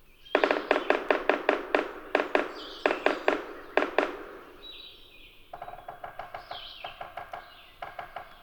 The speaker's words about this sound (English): The yellow-bellied sapsucker's drum has an uneven tempo, an irregular series of taps.